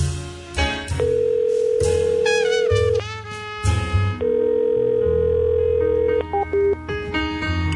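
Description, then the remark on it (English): A telephone ringback tone sounds in long, steady beeps, about two seconds each with short gaps, repeating unanswered over a busy musical background with no one speaking. “And he will now walk far away and act busy so someone else picks up the phone.”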